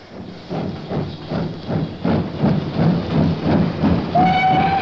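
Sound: train departing from station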